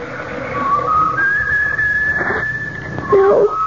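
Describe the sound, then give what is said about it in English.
A kettle whistles, its shrill steady tone sliding upward in pitch and holding, then wavering and dipping lower near the end. No voices are heard. “Lucky I left the kettle out.”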